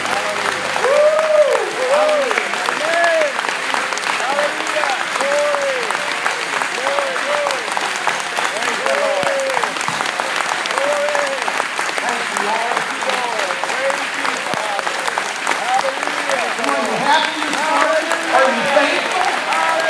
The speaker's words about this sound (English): our big clap offering this morning.